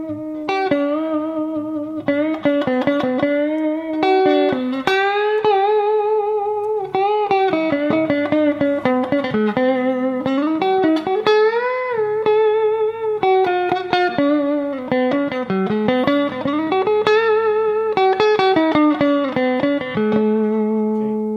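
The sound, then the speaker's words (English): A clean electric guitar with Zex coil pickups and stainless steel frets plays a steady run of sustained single-note melody lines with smooth string bends and slides, fairly loud, with no buzz and no voices. “That's those Zex coil pickups. They just sound great. And it's clean.”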